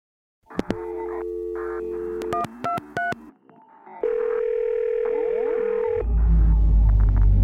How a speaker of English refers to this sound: The phone is ringing.